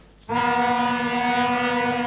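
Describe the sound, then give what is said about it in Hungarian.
A locomotive horn sounds abruptly after a brief quiet moment and holds one loud, steady, rich-toned blast with no talking. It comes during a MÁV safety demonstration in which a driverless car stands on the tracks ahead of two nearly 200-tonne Russian and Romanian locomotives. “A mozdonykürt és a vészfék hangja is jelzi, hogy az autó rossz helyen állt meg.”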